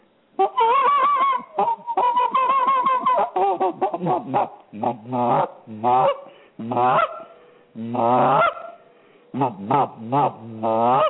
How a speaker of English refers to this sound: That's the gander and the other goose usually call them little ones together. And then they'll all swim together